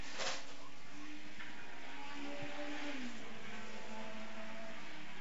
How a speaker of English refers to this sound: And the cars will slowly filter through, of course, heading across the line to complete the session at varying speeds.